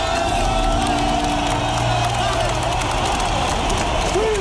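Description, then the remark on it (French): A large stadium crowd applauds and cheers during the Marseillaise at a Euro 2020 qualifying football match, in the stands on the Turkish side. A steady, loud wash of clapping and roaring voices, with an occasional whistle-like tone rising above the din. “Ça chante pas plus juste, mais écoutez, cette Marseillaise applaudit longuement en tribune côté turc.”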